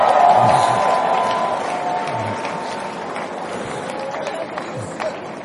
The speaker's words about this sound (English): Give him a hand clap.